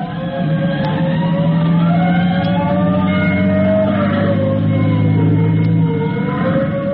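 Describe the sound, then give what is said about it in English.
The siren of fire Engine 209 wails steadily, its pitch slowly rising and falling, over the heavy rumble of the truck's engine as it drives to the fire alarm box at Temple and Cedar. Loud, with no voices. “Maybe you've guessed what Tim is going to learn when Engine 209 reaches the fire alarm box at Temple and Cedar, the corner across the street from Miss Andy Layton's boarding house.”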